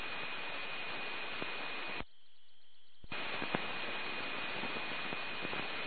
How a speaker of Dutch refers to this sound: Oh, daar staat de wasmachine staat te draaien. God, ik denk, wat hoor ik hier voor een vreemd geluid? Maar dat is mijn wasmachine die... het is weer bekend.